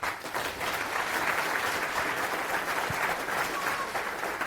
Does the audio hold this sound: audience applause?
yes